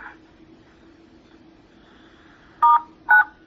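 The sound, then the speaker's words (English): Two short, loud telephone keypad tones beep in quick succession as a caller on a phone line presses star then 9 to raise their hand, after a few seconds of quiet line hum. “Please press star 9 to raise your hand.”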